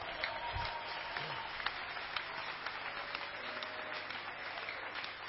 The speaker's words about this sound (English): We are privileged people. Would you clap your hands for Jesus?